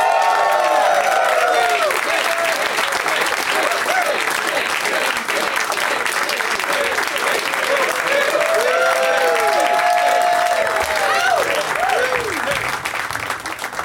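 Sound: audience applause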